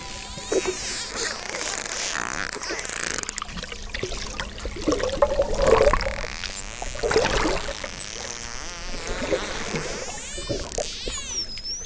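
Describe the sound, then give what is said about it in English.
Underwater dolphin whistles recorded during the scarf dance: wavering high-pitched tones that swoop up and down, mixed with rapid clicks and a steady watery rush, with no voices. Some of the whistles are a 'scarf' whistle played over and over from Denise's box. “I mean, a lot of that is the dolphins just doing whatever they're doing.”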